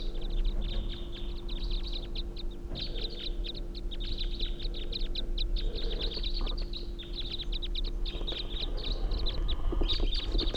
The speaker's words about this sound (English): I can think I see the bird perched tall on a tall spruce tree. Stop. Sounds like a whole flock now.